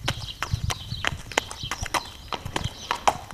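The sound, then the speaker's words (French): Horse hooves clop in a steady, even rhythm, a dozen or so crisp strikes on a hard surface with no voices, the gait of a calm dressage stallion being worked at a measured pace during its warm-up. “D'abord, un petit mot sur le cheval. Là, ça fait un moment qu'on le pomponne. Il est très calme.”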